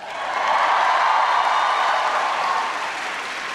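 A crowd of students at the University of Michigan breaks into loud, sustained applause for an introduction, a dense wash of clapping that swells quickly, holds steady for a few seconds, then begins to taper slightly. No one speaks over it.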